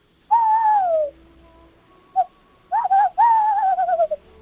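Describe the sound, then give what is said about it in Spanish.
A person imitates a tawny owl's hoot: a long wavering hoo, a brief pause, then a quick stuttering series and a drawn-out quavering call, clear with no other sounds. “Le hago, por ejemplo, el sonido del alcaraván, la bubilla y el cárabo, que es el típico sonido de los búhos que salen por las noches en las películas de miedo.”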